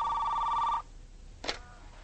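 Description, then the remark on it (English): A telephone rings once with a bright, trilling electronic tone that cuts off abruptly, followed by a quiet pause and a short, sharp click. No one speaks. “She brushes her long hair out of her face as she goes to the phone.”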